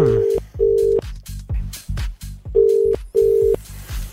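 A telephone line tone sounds in two pairs of steady electronic buzzes with a pause between, clear, over a rhythmic backing beat, as a phone call is dialed from a private number to a legal department. No one speaks.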